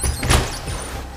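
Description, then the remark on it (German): A window on the top floor of a building is pushed open by attackers, with a short scraping rush and a low thud near the start, then a steady background hiss. Moderately loud, with no voices. “Die Angreifenden laufen in den obersten Stock und öffnen ein Fenster.”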